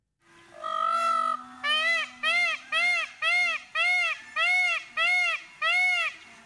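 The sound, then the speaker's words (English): A peacock screams repeatedly and loudly, a long wail followed by about eight shrill, nasal calls in a steady rhythm, with no talking. “You hear the dogs barking, the birds chirping, or even peacocks screaming.”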